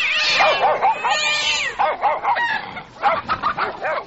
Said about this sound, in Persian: اینجا پشک ها جنگ کدن